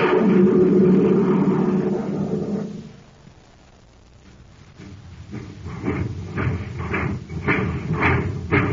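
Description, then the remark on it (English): The Terra Express train laboring to gain speed on ordinary fuel: a loud rumbling engine drone fades out, then slow, heavy rhythmic chugs begin and gradually quicken, with no voices. “That's the Terra Express train trying to get up speed on ordinary fuel.”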